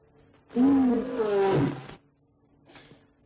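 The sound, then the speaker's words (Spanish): A barn owl gives one loud, harsh, raspy screech lasting about a second and a half, its pitch wavering and sliding down, followed by a faint short hiss. “¿Otra vez, lechuza?”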